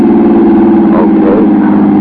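A car engine drones steadily, a loud constant hum with a slight rise in pitch partway through, as if revving while the car drives beyond the city limits. No one speaks.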